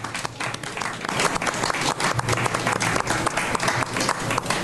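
Sustained applause from an audience, dense overlapping hand claps forming a steady, bright wash of noise at an even loudness across the whole stretch, with no voices standing out.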